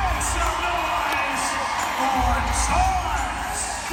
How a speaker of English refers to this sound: And as the crowd cheered to welcome her to the court, she was reintroduced to the world by her new name.